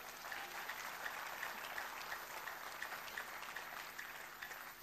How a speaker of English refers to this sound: I want to believe Jesus deserves a clap offering there, please.